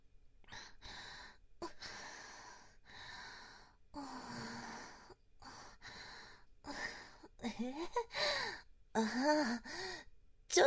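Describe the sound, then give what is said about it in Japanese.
Heavy, labored breathing: a steady run of loud, rasping inhales and exhales that grow more strained, turning into voiced gasps and groaning moans toward the end. “息遣いが荒くなってきました。”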